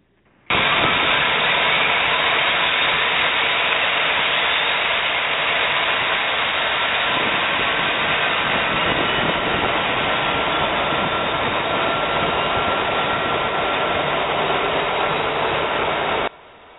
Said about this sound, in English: Now, let's light up number two engine and get the show rolling down the runway. Okay, our Boeing 737 only has two engines, so we'll light up the right side of the airplane, number two. Here we go.